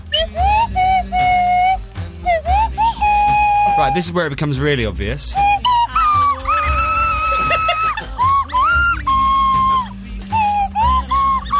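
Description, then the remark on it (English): A swanee whistle plays a bright, wavering tune with swooping slides up and down between sustained notes, loud, while a voice talks briefly over it. “they'd have sold more copies if they'd put a swanny whistle on it”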